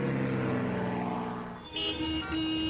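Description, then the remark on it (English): A small propeller plane drones, its steady engine hum shifting in pitch partway through as it comes in to land on runway 32, with no voices. “You're clear to land runway 32.”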